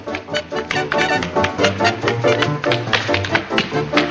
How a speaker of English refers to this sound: Jerry hunches over, bouncing one foot across the floor.